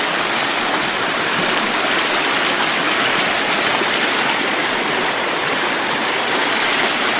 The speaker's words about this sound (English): And the creek has become very wide here. It is probably 35 feet from one side of it to the other here. You look, it's coming down in 1, 2, 3, 4 splits here. All over the place.